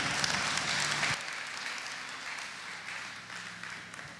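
A crowd applauds steadily during a French-language Christian sermon, a dense wash of many hands clapping that is loud at first, drops slightly after about a second, then carries on at a sustained level.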